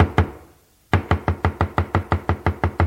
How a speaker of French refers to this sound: La porte est fermée à clé. On frappe.